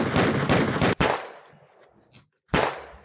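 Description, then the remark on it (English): A rapid volley of sound-effect gunshots, then a loud single shot with a ringing tail, a brief pause, and one more sharp blast that fades out. No one speaks. “Trying to shoot him off the hip. Chitty, chitty, bang, bang.”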